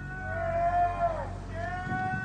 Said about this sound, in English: After Luigi was put into prison, News Nation's Ashley Banfield had a reporter outside of the prison, but prisoners inside of the prison started, like, shouting out of the windows. I can't tell if you can hear this.